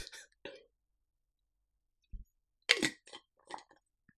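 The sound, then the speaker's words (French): Quiet mouth sounds of someone taking a sip of a drink: a couple of short breathy slurps, a soft low gulp, then a few noisy exhaled breaths and small clicks, with no clear speech. “Attendez, laissez-moi prendre une gorgée de play.”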